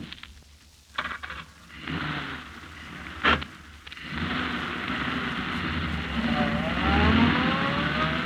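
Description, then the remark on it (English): A couple of sharp knocks, like a car door shutting, then a taxi's engine rumbles up into a steady, loud roar as it pulls away and accelerates to follow another car, with no voices. “Follow that car. Quick, driver.”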